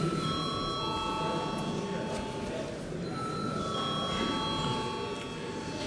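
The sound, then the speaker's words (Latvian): A parliament voting bell rings continuously for several seconds before a vote on amendments to the Standardization Law in its third, final reading, a steady, unbroken metallic tone held at an even loudness over a low background murmur. “Paldies, lūdzu zvanu.”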